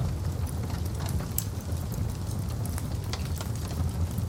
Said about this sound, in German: Ein Kaminfeuer prasselt in einem Bauernhof 30 Kilometer weiter westlich im Dorf Niederurf.